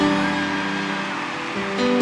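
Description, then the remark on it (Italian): A large crowd applauds continuously, a dense, steady wash of clapping that fills the space, with a faint tonal hum running underneath and a slight swell near the end. “Portateli a casa questi applausi, anche Max, che è lontano.”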